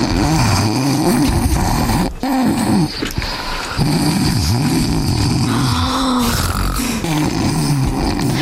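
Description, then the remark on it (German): People snoring loudly in their sleep, a continuous low rasping rumble whose pitch rises and falls in slow swells, with overlapping snores and no speech. “Sag mal, hörst du das auch? Die schlafen noch.”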